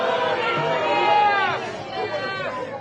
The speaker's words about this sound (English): Well, I think the crowd reaction says it all.